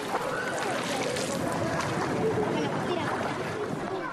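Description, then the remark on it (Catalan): Continuous splashing and churning water as people jump headfirst into the cold water of the Toll de l'Ou pool, a dense rushing wash that stays steady and fairly loud throughout, with indistinct voices mixed in. “Au, i ara de cap al toll. Que freda que està l'aigua!”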